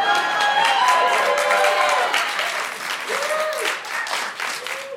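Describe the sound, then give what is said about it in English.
A crowd applauds steadily for about five seconds, dense clapping with a few whoops and whistle-like cheers rising above it, fairly loud and consistent throughout. “Hold for applause by those lazy fucks.”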